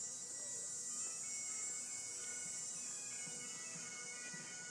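Bagpipes play in the distance, heard on a walk past parked cars on August 27, 2011, a steady droning tone with a thin melody drifting above it, faint and continuous beneath a soft outdoor hiss, with no one talking.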